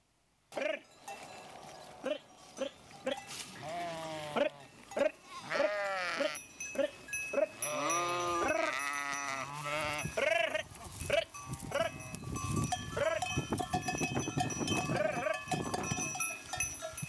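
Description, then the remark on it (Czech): Repeated sheep bleats in a video of sheep and shepherds in the region of Israel, several animals calling in overlapping waves, loud, with a faint bell-like tinkle and outdoor background noise underneath. “Ovce slyší hlas svého pastýře a jdou za ním.”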